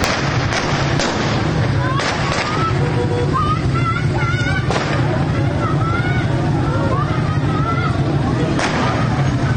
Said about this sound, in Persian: ویدیوهای منتشر شده در شبکه‌های اجتماعی نشان می‌دهد که معترضان به سوی این نهاد انتظامی سنگ پرتاب می‌کنند و در پس زمینه صدای شلیک گلوله شنیده می‌شود.